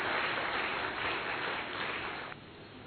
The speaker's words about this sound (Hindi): University and college educators conference में आए हुए पूरे देश भर से आप सभी educators का, शिक्षाविदों का बहुत बहुत स्वागत है, अभिनंदन है, अभिवादन है. एक बार जोरदार ताली से हम स्वागत करते हैं आप सभी का.